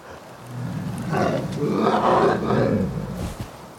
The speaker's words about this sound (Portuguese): Em seguida, veio o urso.